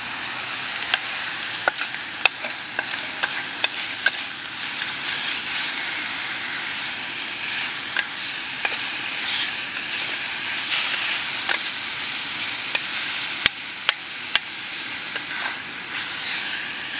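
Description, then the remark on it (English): A meal sizzles steadily in a skillet on a butane stove: a constant, bright frying hiss broken by scattered sharp pops and crackles, with no voices. “But right now, my entire meal can be cooked inside of a skillet with a butane stove.”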